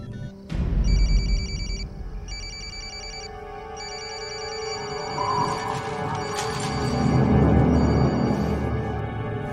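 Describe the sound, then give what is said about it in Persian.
A telephone rings with Vicki's call, a bright electronic trill repeating in regular bursts of about a second over a steady low rumble of background noise, with no one speaking. “تلفنشو جواب نمیده.”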